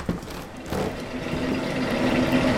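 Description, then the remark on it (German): Continuous mechanical clatter of clattering, stamping chocolate factory machines producing chocolate at a chocolate museum, a dense steady din with low rumbling and faint repetitive thumping, fairly loud throughout and with no voices. “Ist das laut hier? Klappernde und stampfende Maschinen.”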